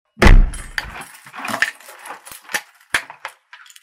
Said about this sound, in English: Quick, lock the door. Why? Stop asking questions, woman, and lock the door.